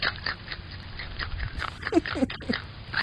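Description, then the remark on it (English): Crunchy chewing as a groundhog eats vegetables, with a steady run of wet bites and crunches and a few small squeaky grunts mixed in over low background rumble. “Very provocative and so chewing sound he there. He gobbles up like carrots and all sorts of vegetables.”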